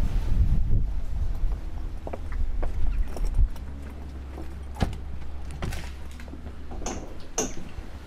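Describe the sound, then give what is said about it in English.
Inside a working milking shed, a milking machine's steady low drone runs underneath scattered metallic clanks and dairy cows' hoof knocks on concrete, with a couple of brief hissing bursts near the end. No one speaks. “Well, we found a bit of a quieter spot here, so we might be able to have a quieter chat without the cows and the machine in the background.”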